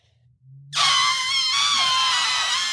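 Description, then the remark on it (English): A person imitates an elephant's trumpet with a loud, brassy, strained blare. It starts abruptly after a brief low hum and holds steady for about two seconds with a slight waver in pitch. “They make that noise and then also they look the way they are.”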